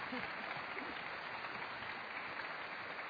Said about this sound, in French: Et on les applaudit, bien sûr.